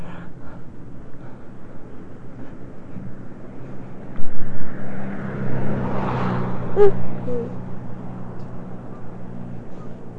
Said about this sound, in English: Car. There went a car.